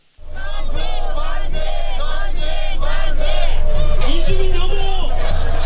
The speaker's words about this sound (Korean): 이들은 한반도 긴장 고조와 무기 강매 스톱 등의 구호를 외치면서 시위를 벌였습니다.